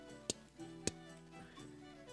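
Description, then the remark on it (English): Two crisp clock ticks, a little over half a second apart, stand out sharply against a soft, sustained musical drone; no one speaks. “They're saying that because you hear the tick of a clock.”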